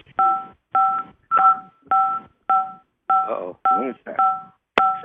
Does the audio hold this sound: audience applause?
no